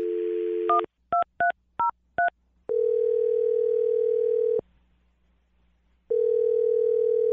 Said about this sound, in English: All right, I'm going to dial his phone number right now, and then you can make your Awkward Tuesday phone call. Are you ready? Yep. Okay, here we go.